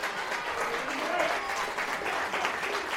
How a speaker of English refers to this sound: But the applause speaks for itself. That was good. Yeah, we strung passes together there and looked dangerous.